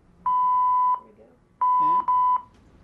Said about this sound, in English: Yeah. Fire, fire, fire. That's what that means. Three tones is fire.